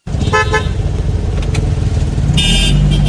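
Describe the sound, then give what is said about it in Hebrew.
A taxi's car engine rumbles steadily and loudly throughout a ride in Bnei Brak, with two short, bright horn toots cutting in, one near the start and another at the end. No one speaks. “בוא נקשיב לנסיעה פנימית של אחד מהנהגים במוניות בני ברק.”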